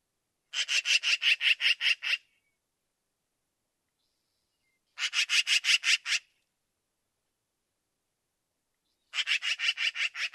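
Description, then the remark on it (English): Black-billed magpie yapping calls in three bursts, each a fast run of about eight harsh, raspy notes. The bursts are loud and separated by silent pauses, with no voices. “So we got a sample of the yap, yap, yapping.”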